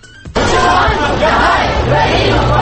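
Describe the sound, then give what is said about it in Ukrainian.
A loud outdoor crowd of over 100 marchers in Ukrainian national dress at a vyshyvanka march in Kharkiv, Ukraine, shouting chants together on Rosa Luxemburg Square, a dense continuous roar of many voices that starts abruptly after a brief quiet moment and stays steady throughout. “Це учасники вишиванкової ходи. Вигукують і вигадують речівки.”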